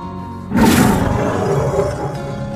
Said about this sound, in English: A tiger can growl. I can growl.